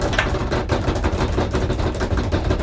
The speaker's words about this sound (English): no one speaks over the drum roll